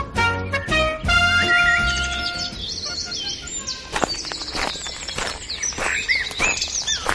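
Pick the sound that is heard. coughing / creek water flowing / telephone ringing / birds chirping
birds chirping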